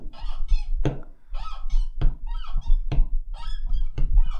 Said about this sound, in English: Listen to this. Sounds like a door, isn't it? Yeah. Isn't that right? Yeah, yeah.